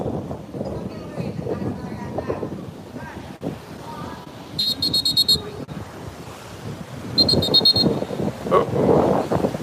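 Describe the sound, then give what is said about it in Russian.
Gusty wind roars and buffets the microphone by the ocean shore, with surf rumbling underneath, faint voices, and two short shrill whistle-like bursts partway through. “Вы уже чувствуете ветер, я так полагаю.”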